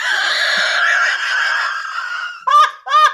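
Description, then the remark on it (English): A voice imitates an owl hoot: one long, wavering, drawn-out call followed by two short, sharp hoots. The imitation is loud and slightly honking in tone. “That's an owl sound.”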